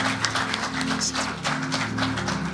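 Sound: audience clapping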